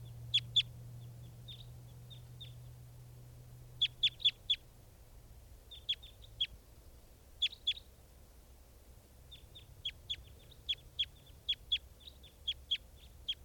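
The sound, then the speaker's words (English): A flock of birds takes off from a net set with decoys, leaving some birds caught in the net, giving short, sharp high-pitched chirps in quick clusters of two to four, repeating irregularly throughout over a low steady hum, with no one talking. “And the flock is taking off, leaving some birds in the net.”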